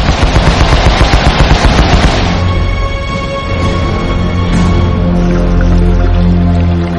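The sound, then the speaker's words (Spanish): A hedgehog anti-submarine mortar volley fires from the USS Pittsburgh, aided by the USS Flaherty, in an attack on a submerged U-boat: a loud, rapid burst of sharp thumping launches for about two seconds, then a steady low droning hum with tonal layers. No one speaks. “Con la ayuda del USS Flaherty, el Pittsburgh lanza el ataque del Erizo. ¡Abran fuego!”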